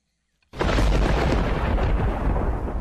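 A sudden, loud crack of thunder bursts in after a brief silence and rolls on as a heavy, sustained, dominating rumble, with no voices.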